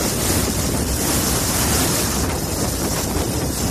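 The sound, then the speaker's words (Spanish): A gushing waterfall roars steadily and loudly, a dense, unbroken rush of falling water with no pauses or voices: the gushing springs (chorros) of the río Mundo in the Sierra del Segura, Albacete, Spain. “El espectacular reventón de los chorros del río Mundo en la Sierra del Segura, en Albacete.”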